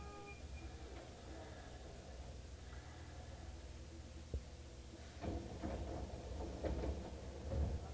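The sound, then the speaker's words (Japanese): A steady train rumble with a sharp clunk, followed by the right-side sliding doors of a train opening at Minamimorimachi station in a burst of airy, rattling hiss and a few thumps, moderately loud. “右側の扉が開きます。ご注意ください。”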